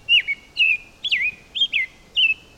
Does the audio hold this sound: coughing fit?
no